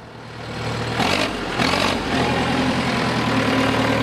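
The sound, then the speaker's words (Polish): A car engine idles in a traffic jam while driving to a doctor's appointment, with a steady, low droning hum, broken by two brief, louder whooshing surges before settling back into the even rumble. “No stoję w korku, jadę do lekarza z żoną, czeka 3 miesiące już na wizytę, także to nie bardzo, żeby teraz nie dojechać.”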